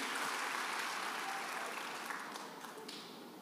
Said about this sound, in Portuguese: Se você puder, dê um aplauso bem forte para o Senhor.